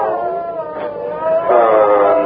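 A dolphin squeak recorded on tape and played back slowed down, turning into a loud, drawn-out, howl-like wail with rich harmonics that swells and shifts pitch partway through, heard alone.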